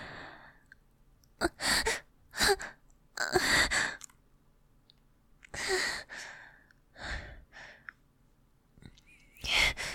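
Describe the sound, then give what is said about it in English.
Soft, airy breaths blown lightly onto a microphone, arriving in several short puffs and longer exhales with quiet gaps between them, no talking. “You're only breathing on it lightly, but it's sending shivers down my spine.”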